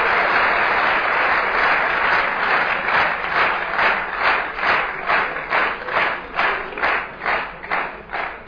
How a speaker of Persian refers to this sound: تایید میکنید؟ به افتخارشون دست بزنید.